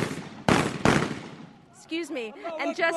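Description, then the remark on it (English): Two loud, sharp gunshots of celebratory gunfire crack in quick succession with a short echoing tail as people run into Gaddafi's compound, followed by a man starting to speak. “People are literally running in here, and the sound that you can hear behind me of shooting is celebratory gunfire.”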